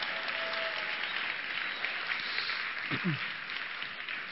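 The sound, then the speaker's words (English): A crowd applauds steadily, cheering for an upcoming baptism, a dense wash of clapping that holds at an even level throughout, with a brief voice or cheer rising out of it near the end. “Let's cheer for that one, because that's so cool.”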